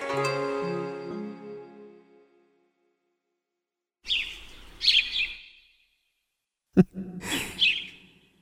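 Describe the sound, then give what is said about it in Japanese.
A sparrow chirps in two short bursts of bright twittering, separated by a sharp click, following a fading ringing tone and a pause of silence. No one speaks. “我と来て遊べや親のねえスズメか。”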